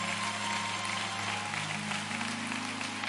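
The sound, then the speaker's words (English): A church audience claps its hands in praise for the men of God on Resurrection Sunday morning, steadily for about three seconds, a dense, even wash of many hands at constant loudness, with low sustained tones humming underneath and no talking. “Come on, let's give these men of God a hand clap of praise.”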